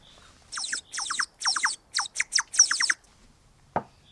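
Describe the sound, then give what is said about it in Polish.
A handmade, water-filled clay bird whistle warbles in six or seven quick, bubbling trills, high and shrill like birdsong, then falls silent before a single short knock. No one speaks. “Oprócz tego, że robimy naczynia, to robimy ptaszki, gwizdki, które jak się naleje wody, to potrafią tak fajnie grać.”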